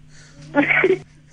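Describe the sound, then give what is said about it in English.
A person does a single short meow, imitating a cat in one drawn-out vocal burst of about half a second, clear against a quiet background. “Meow like a cat.”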